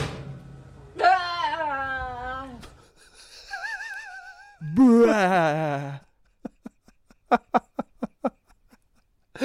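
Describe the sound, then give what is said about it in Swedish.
A woman vocally imitates a grill lid being slammed shut: drawn-out groaning, creaking vocal sounds and a wavering whistle, then a rapid run of sharp clicks and pops. “Nu ska hon försöka imitera hur det låter när man smäller igen en grill.”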